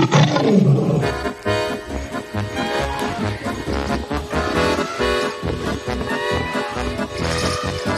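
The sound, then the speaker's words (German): A loud lion roar bursts out at the start, rumbling and gliding downward, before lively rhythmic music with drums and sustained tones takes over for the rest. “Der Löwe konnte nicht schreiben, aber das störte den Löwen nicht, denn der Löwe konnte brüllen und Zähne zeigen und mehr brauchte der Löwe nicht.”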